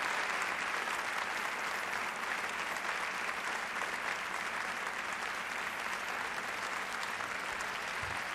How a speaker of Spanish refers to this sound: Desde luego, vamos a escuchar esos aplausos a la llegada de Doña Sofía al Teatro Campo Amor.